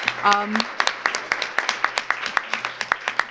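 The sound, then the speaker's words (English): Audience applause for a woman speaker, with distinct, fairly evenly spaced claps rather than a dense roar, continuing steadily throughout, with a brief voice sounding near the start. “Let's give her another round of applause, please.”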